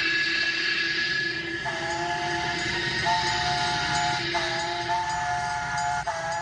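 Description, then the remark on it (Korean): A steam train runs with a steady, dense rumble and hiss, while a long steam whistle blows in several sustained, slightly shifting tones over the noise. “두 기차가 프로몬터리 포인트에서 연결된 극적인 순간, 공사를 하던 양쪽의 인부들은 서로 부둥켜 안고 울기도 하고 웃기도 했습니다.”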